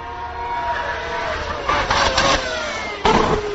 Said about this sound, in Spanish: Bueno, pues ese es el petardeo que hace el Ferrari, pequeño petardeo, parece que han trabajado, pero que llega menos explosión al escape.